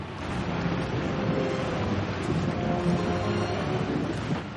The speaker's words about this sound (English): The waterfall is most important. It mixes the chocolate, churns it out, makes it light and frothy. By the way, no other factory in the world mixes its chocolate by waterfall, my dear children.